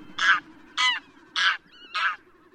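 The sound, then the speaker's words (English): A domestic goose honks four times in a steady, evenly spaced series, each call harsh and loud, over a low background hum. “The goose of today's farmyards was domesticated about 3,000 years ago from the greylag goose, the wild goose species still found today throughout much of Europe and Asia.”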